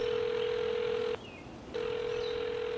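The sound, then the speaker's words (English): A mobile phone calling out after a number is tapped from its call list: a steady electronic ringing tone plays for about a second, pauses briefly, then starts again, moderately loud, with no talking. “pulled out her phone, found the number in her call list, and tapped it once.”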